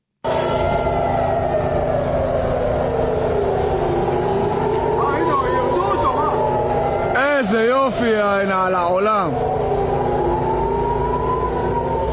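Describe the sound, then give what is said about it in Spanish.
Air raid sirens wail steadily in Israel, sounding over a missile launched from Yemen by the Houthis that was intercepted; their pitch slowly rises and falls in long sweeps, loud and continuous throughout, with a brief burst of voices or other sound partway through. “Pues estamos oyendo ese sonido de las sirenas porque un misil lanzado desde Yemen por los hutíes contra Israel afortunadamente fue interceptado con éxito, pero eso no impidió que muchísimas personas tuvieran que refugiarse de nuevo en los refugios,”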